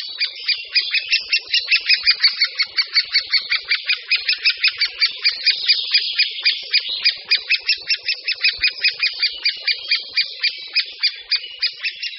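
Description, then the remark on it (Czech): Great spotted woodpecker nestlings beg for food at their nest in a tree cavity, nonstop in a loud, rapid chorus of harsh, high chattering calls, pulsing steadily with no pauses and no other sounds. “Není vůbec žádným problémem najít hnízdo podle hlasitě se ozývajících mláďat žadonících o potravu zprvu zevnitř dutiny, později přímo ve vchodu do ní.”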